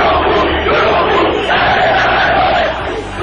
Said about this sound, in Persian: منتها زمان گذشت تا رسیدیم به سال 88 و ماجراهای بعد از انتخابات که مردمی که از شعار خسته شده بودن به جایی رسیدن که خودشونم برای شعار دادن و داد زدن و خواستن خواسته هاشون پا گذاشتن به خیابون ها.